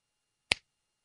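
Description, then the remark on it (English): A single crisp finger snap, sharp, with a bright click that fades quickly into silence. “So, can I just snap my fingers and half you all go away?”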